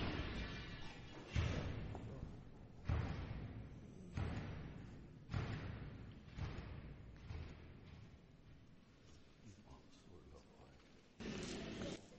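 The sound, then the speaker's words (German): A door bangs shut again and again in the wind, heavy thuds arriving at irregular intervals, each one loud with a short echoing decay. “Nur der Wind hat die Tür geschlagen.”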